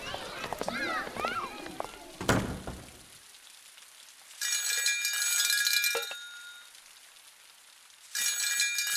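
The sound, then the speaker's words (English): A telephone rings in two bright, trilling bursts, each lasting a second or more and fairly loud, after a brief stretch of voices at the start. “The phone is ringing.”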